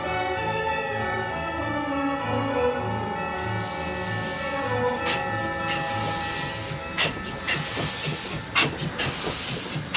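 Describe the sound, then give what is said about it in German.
A steam train hisses loudly, a broad rush of steam building after a few seconds over a steady mechanical hum and rhythmic low chugging, with occasional sharp bursts and clanks, travelling through a cold, snowy region. “Boah, was bin ich froh, dass die Heizung im Zug funktioniert.”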